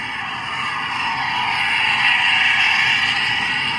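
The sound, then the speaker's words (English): A loud, steady mechanical roar from a recreational boat passing close by in an area busy with recreational vessel traffic, swelling to a peak midway and easing slightly as it moves off, with no voices. “and then you'll hear a loud vessel passing close by.”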